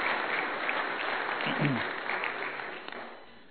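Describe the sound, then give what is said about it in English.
An audience applauds a couple married 61 years, with dense, steady clapping that fills the whole stretch, briefly swelling before gradually thinning out toward the end, with a faint voice murmuring underneath. “Yeah, we can applaud.”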